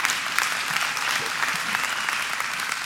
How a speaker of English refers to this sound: I know. It doesn't matter how long you've been married. Everybody claps after that. I'm so glad. Thank you for your encouragement.